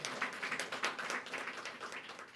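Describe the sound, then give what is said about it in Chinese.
A crowd applauds as a big round of applause for God, steadily throughout, many hands clapping at once in a dense, continuous wash of claps, not very loud, with no voices heard. “再一次给神一个大的掌声。”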